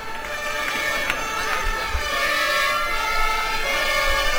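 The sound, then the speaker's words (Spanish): Several fire engine sirens of the Villaverde firefighters wail together in a steady, overlapping chorus, loud and continuous, sounding to welcome the arriving south column on Saturday the 22nd at about 10:05 in the morning, with a low rumble of traffic or crowd noise underneath and no one speaking. “Los bomberos de Villaverde reciben a la columna sur con estas sirenas.”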